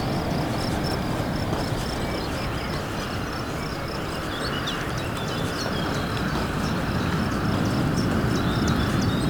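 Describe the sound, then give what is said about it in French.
Steady outdoor ambience by a beach with a broad, constant wash of noise, like surf or wind, and faint high chirps of crickets and birds scattered throughout, no talking. “comme vous pouvez l'entendre, des grillons, des oiseaux au bord de la plage.”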